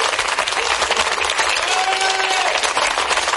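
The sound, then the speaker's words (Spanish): A crowd of factory employees applauding Jordi Cuixart, convicted of sedition, as he arrives at his factory after leaving prison: dense, steady clapping fills the whole clip at a constant loud level, with a brief tonal whistle or voice rising faintly above it midway. “Y como están escuchando, ha sido recibido este condenado por sedición entre aplausos.”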